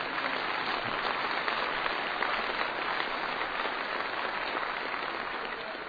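An audience breaks into sustained applause for the message that He defeated death and lives forever, a dense, steady wash of many hands clapping at an even loudness for several seconds, with no voices standing out.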